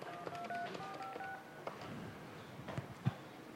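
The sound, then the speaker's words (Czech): A quick run of electronic telephone dialing tones, short paired beeps in an uneven rhythm, followed by a few fainter clicks and beeps, as a call is put through to a telephone exchange. Clear but not loud, with no voices. “Tak to začne tutat, protože jsme se dovolali sice dál o jeden skok na tu ústřednu toho CZNiku”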